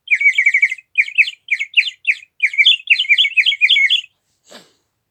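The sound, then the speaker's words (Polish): A clay rooster toy whistle warbles in a run of quick, high, bubbling trills, broken into several short bursts, then ends with one brief sliding note. No voices are heard. “mój przyjaciel, gliniany kogucik.”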